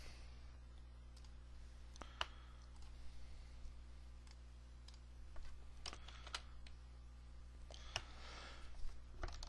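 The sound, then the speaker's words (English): Scattered, quiet keystrokes on a computer keyboard as the word "event" is typed into JavaScript code, irregular clicks a second or so apart, over a steady low electrical hum with no one talking. “Now notice I start typing event.”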